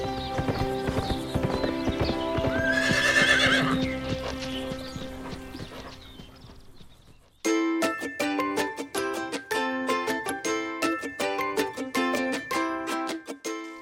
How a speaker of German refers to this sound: Und wie er läuft! Da hat Jane ein Pferd wirklich sehr, sehr glücklich gemacht.